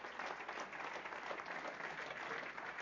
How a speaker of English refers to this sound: Give the Lord a great clap offering today, would you? Come on.